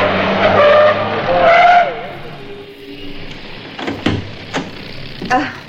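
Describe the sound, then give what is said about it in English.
A taxi cab's tires screech loudly for a couple of seconds as it skids to a halt at a street corner, followed by a few sharp clunks like a door opening and closing. “I thought you'd be needing a cab.”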